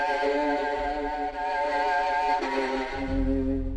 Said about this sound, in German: haute wieder kräftig auf die Cellosaiten.